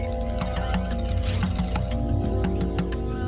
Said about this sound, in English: I am frying onions.